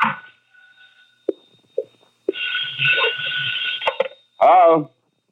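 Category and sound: signal or alarm, telephone ringing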